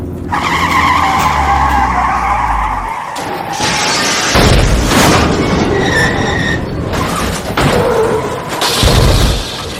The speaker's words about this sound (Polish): Gówniana nawigacja z netu zawsze to samo. Znowu rozwaliłem se auto